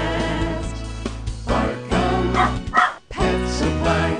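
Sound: dog barking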